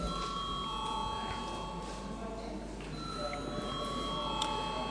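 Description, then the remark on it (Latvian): A voting bell in the Saeima parliament rings as one steady, unbroken electronic tone for the whole five seconds, carrying over a low, continuous murmur of voices and hum, as deputies are called to vote on sending a bill to a committee. “Lūdzu zvanu.”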